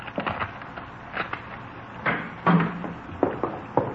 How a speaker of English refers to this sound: You want me to open the door? Better let us do it, huh?